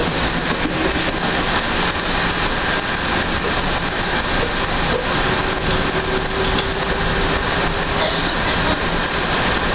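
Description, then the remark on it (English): A train heading to the Magic Kingdom train station rolls steadily along the track with a constant loud rumble and rattle, a faint tonal hum running through the middle, heard from on board with no talking. “Where I'll be leaving you because we are now getting ready to exit the train to go into the Magic Kingdom.”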